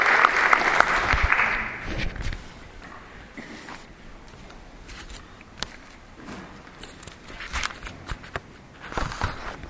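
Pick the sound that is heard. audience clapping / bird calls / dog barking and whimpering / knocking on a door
audience clapping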